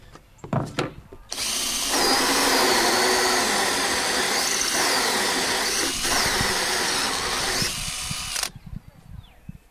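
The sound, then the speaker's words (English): A power drill runs loud, boring a hole in a beehive in one steady, whining burst of about seven seconds, with a few handling clicks and knocks before and after, while a feeding mechanism is built so bees can reach sugar syrup through the divider. “And I gotta drill a hole, and then we'll be good to go, ready to go.”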